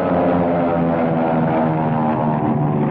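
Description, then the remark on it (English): Propeller airplanes roar in a dogfight, bobbing and weaving around each other in evasive maneuvers and firing, their engines a loud, continuous droning buzz that holds steady throughout with no voices. “Their planes bob and weave around each other.”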